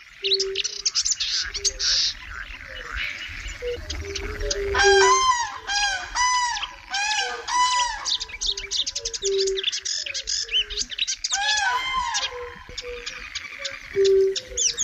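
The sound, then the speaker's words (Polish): Dense marsh chorus of chirping, warbling birds with chattering pool frogs, while fire-bellied toads give soft, mournful, evenly spaced low calls in the background throughout. “Dopełnieniem całości koncertu są nostalgicznie odzywające się w tle kumaki, ale także gadatliwe żaby jeziorkowe.”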